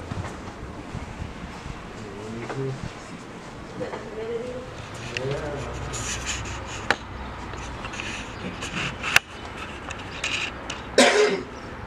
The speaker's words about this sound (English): The signs are making me cough. It's something else. That ain't good.